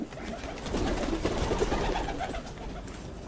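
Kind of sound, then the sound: bird, pigeons cooing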